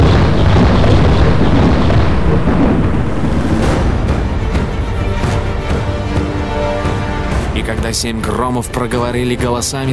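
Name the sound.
thunder rumbling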